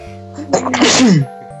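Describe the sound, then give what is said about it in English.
A single loud sneeze with a sharp inhaled build-up and an explosive, breathy burst that trails off quickly, as a person sneezes on their fish. “I'm actually sneezing on my fish.”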